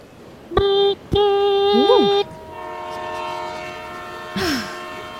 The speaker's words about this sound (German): Und der Zug fährt an und setzt sich in Bewegung und nimmt Fahrt auf und ihr entfernt euch vom Bahnhof.